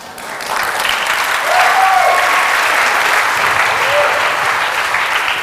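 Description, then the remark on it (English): Sustained audience applause at a public lecture at Dominican University, a dense steady clatter of many hands clapping that swells slightly and holds at a loud level throughout, with faint voices mixed in. “The lecture didn't deserve that applause, but I've been working at it for 30 years, so I'm getting somewhere.”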